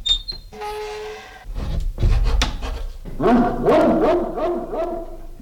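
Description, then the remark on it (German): The old landlady's dog barks and pants, then lets out a rapid string of short, high-pitched yips and whines; no one speaks. “Das wird die alte Wirtin sein mit ihrem Köter, die uns belauscht.”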